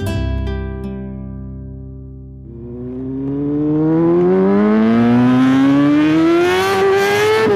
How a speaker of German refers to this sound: Dieses Geräusch, das hört man jetzt immer öfters. Ja, bei dem schönen Frühlingswetter beginnt so langsam wieder die Motorradsaison.